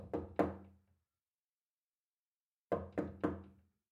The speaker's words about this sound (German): Nachdem sie zurückgekehrt war, klopfte sie behutsam an die Schlafzimmertür.